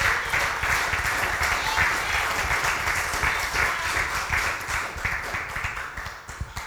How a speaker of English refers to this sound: Do I have any real people here? Clap your hands if you know what I'm talking about.